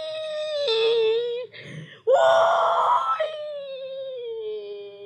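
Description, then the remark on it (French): A mourner at a wake in Haiti wails loudly, long sustained cries that rise and sag in pitch, broken midway by a short sobbing catch of breath before the keening resumes. “C'est comme ça ça passait dans veillé pays d'Haïti. Gien grien dent, gien rel, gien plaisir, gien crier.”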